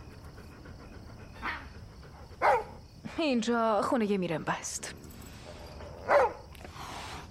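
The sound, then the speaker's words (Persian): A stray dog gives a few short, sharp barks spaced several seconds apart, with a person talking briefly between them. “سگ میشه؟ آره.”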